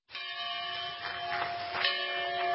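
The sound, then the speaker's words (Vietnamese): A church bell, brought from one of the first Black Baptist churches in Virginia, is pulled and rings with a sustained, shimmering metallic tone, its overlapping strikes blending into a continuous resonant hum that holds steady, moderately loud, with no voices. “Họ kéo chiếc chuông được đưa đến từ một trong những nhà thờ Baptist đầu tiên của người da đen ở Virginia.”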